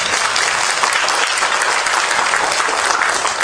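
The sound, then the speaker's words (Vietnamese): A crowd in a temple's main hall claps loudly and steadily for several seconds for the five to seven people who are lifelong vegetarians, a dense, continuous wash of applause from many hands with no voices standing out. “À, được khoảng 5-7 người cho một tràng pháo tay lớn.”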